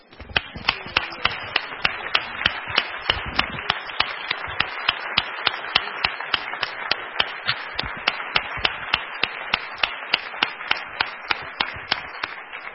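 An audience applauds steadily for more than ten seconds, a dense crackle of many hands with sharper individual claps standing out, holding an even loudness throughout with no voices on top.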